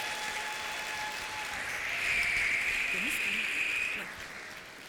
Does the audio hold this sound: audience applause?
yes